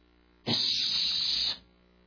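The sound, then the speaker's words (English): A voice imitates the devil's hiss while telling children the story of the devil tempting Jesus at night: one loud, steady, bright hiss lasting about a second, starting abruptly and cutting off just as sharply, with no talking around it. “The devil's hissing. Can you hear him, children?”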